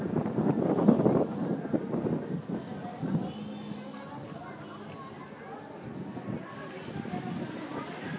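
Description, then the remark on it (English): Wind buffets a microphone on a sunny day with a steady low rumble and a few stronger gusts, while indistinct voices murmur faintly in the background. “nice and sunny, and at the same time it's windy, which makes it comfortable.”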